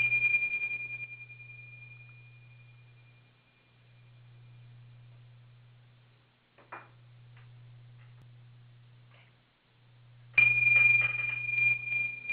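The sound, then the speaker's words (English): A bright, pure chime tone rings out and slowly fades, then is struck again sharply near the end, over a steady low pulsing hum and a few faint clicks. The chime is rung to signal the start of a group sharing turn. “Okay, so I'm going to open up the microphones now and ring the chime.”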